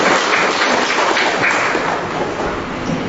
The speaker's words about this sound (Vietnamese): chúng ta cho một tràng pháo tay thật là lớn chào mừng tất cả những anh chị em này.